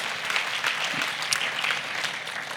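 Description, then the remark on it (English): Sustained applause from an audience for the Lord, a dense steady patter of many hands clapping at an even loudness, with no voices rising above it. “Come on, let's give the Lord a huge round of applause.”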